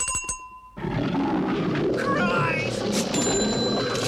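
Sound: bengal tiger roaring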